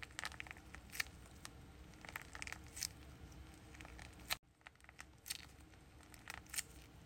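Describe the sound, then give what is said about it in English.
A blue crunchy stress ball with stars inside being squeezed in a squish test, giving off quiet, irregular crackling and crinkling bursts with a brief pause partway through before the crunching resumes. No one speaks. “This one is super crunchy too.”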